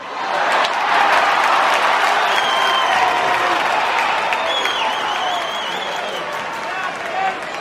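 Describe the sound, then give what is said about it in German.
A large audience applauds steadily after a song, dense clapping filling the whole stretch at a loud, even level, with a few whistles and cheers rising over it before it eases slightly toward the end. “Publikum sehr gut an, mein Lieber.”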